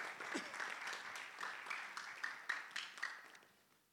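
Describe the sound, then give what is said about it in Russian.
A group applauds a team, a dense patter of many hands clapping at a steady level with a few sharper claps standing out, then fading away toward the end. “Давайте команде наши аплодисменты.”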